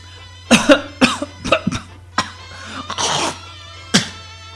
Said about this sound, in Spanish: Solamente un poco de tos.